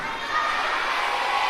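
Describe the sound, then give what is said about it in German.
An audience of children shouts out an answer to how many princesses there are, all at once, a loud, dense burst of overlapping high-pitched voices held steady for over a second with no single voice standing out. “Schreit ihr denn so?”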